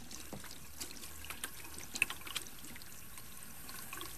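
Water runs steadily from a tap as someone washes their hands, at a low, even level, a soft hiss broken by a few faint splashes and drips, with no voices present.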